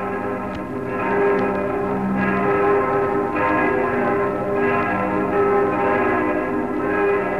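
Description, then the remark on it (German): Several large church bells of the Frauenkirche in Dresden peal together in a continuous, overlapping wash of ringing tones, with periodic swells as strokes land. The sound is full and resonant, slightly muffled, a historic recording from 1925. “Dies ist eine historische Aufnahme des Geläuts der Frauenkirche in Dresden aus dem Jahr 1925.”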